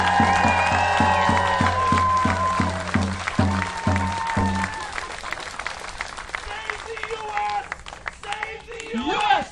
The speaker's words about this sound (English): And I'm proud of you for being out here. So round of applause for everybody.